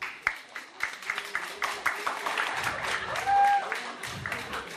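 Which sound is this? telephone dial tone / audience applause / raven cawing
audience applause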